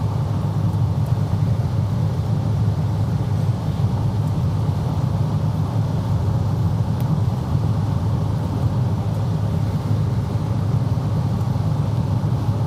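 Steady, loud low-frequency rumble from inside a moving car on the drive home, a constant drone of engine and road noise that holds unchanged for the whole stretch with no talking.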